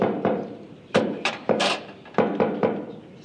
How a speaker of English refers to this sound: Oh, that knock is getting so popular, pretty soon it's gonna be in the top 40.